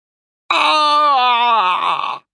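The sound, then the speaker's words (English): A man lets out a loud, sustained cry of pain as his arm bone is snapped, a single strained scream lasting nearly two seconds, intense, with a groaning, wavering pitch before it cuts off. “Cheeks screamed in pain.”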